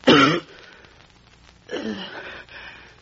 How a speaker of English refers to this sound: But I've been coughing so much lately, no one wants to employ me anymore. I spit blood on the fans.